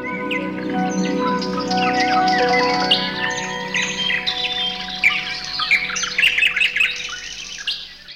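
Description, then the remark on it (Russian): Many birds chirp and tweet together in a forest thicket in a dense, overlapping chorus, with bright rapid trills and whistles rising toward the end. No one speaks; the calls sound lively. “В чаще громче щебет птичий.”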